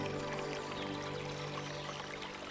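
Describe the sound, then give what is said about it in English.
Soft, steady burbling and bubbling of water in a stone pool in a clearing, small eddies swirling with gently bubbling effervescence, a gentle continuous trickle with a faint sustained tonal hum beneath it, quiet throughout. “Small eddies burble in soft, melodious swirls, along with the gently bubbling effervescence”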